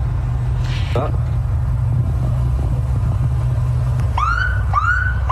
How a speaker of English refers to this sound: It didn't take long before you hear the sirens.